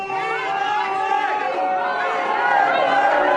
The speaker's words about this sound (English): And divisive that they boo her, too. Whoa, they're booing her.